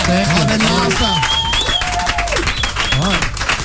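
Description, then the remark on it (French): An audience applauds the guests of a radio interview loudly and steadily for the whole few seconds, a dense crackle of many hands, with voices calling out and a couple of rising whistle-like cheers over the top. “On peut les applaudir quand même.”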